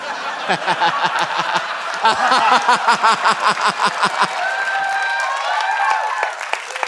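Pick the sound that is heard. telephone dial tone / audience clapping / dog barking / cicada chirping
audience clapping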